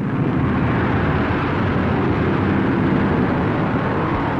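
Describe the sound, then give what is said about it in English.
A loud, continuous roar of many stock cars racing at Okanichi Speedway, a mile-long dirt racetrack in Hillsborough, about 50 years ago, blends into one dense, rumbling wall of sound, steady with no pauses and no voices. “The crowd comes to its feet as the pace car moves out of the way, and they're off.”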